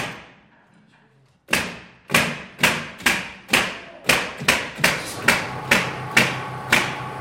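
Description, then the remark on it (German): Nail guns fire in a rapid series of sharp, punchy thuds, about a dozen shots in quick succession with slight ringing decay, on a quiet timber construction site in Zollikofen where a four-storey wooden residential building is going up, with no talking. “Das Geräusch von Nagelpistolen, das wir hier hören, ist typisch für eine Baustelle, wo ein Holzhaus entsteht.”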